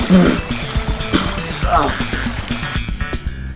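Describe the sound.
Splashing, sloshing water from a video game river that the player has fallen into and swims in, steady and fairly loud across the whole stretch, mixed with tonal game sounds and a voice speaking over it.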